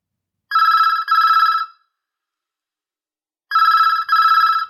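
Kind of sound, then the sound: household object, telephone ringing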